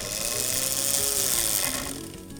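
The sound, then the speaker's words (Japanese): The small electric motor of a Mini 4WD toy car, powered by high-frequency current flowing through concrete, whirs steadily with a buzzy, high-pitched hum, then loses some strength and winds down in the final half second as the car is lifted. No one speaks. “持ち上げると止まっちゃいますね、はい、つけるとまた回ります。”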